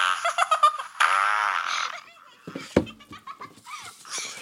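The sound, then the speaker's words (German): A loud, buzzy fart sound effect blares in a few sputtering bursts, then a longer raspy blast, followed by scattered giggles and laughter. “Und Maxi, du bekommst das Pups-Witzebuch.”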